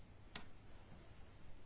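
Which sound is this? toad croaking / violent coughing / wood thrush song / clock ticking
clock ticking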